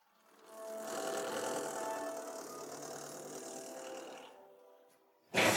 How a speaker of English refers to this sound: Do you hear? The helper cars are already here. The bulldozer lowers its blade. It's removing the scattered blocks.